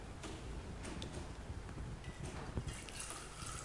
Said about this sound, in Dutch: Ander woord voor schenken is uitgieten. Hè? Gieten. Je giet de wijn in de beker.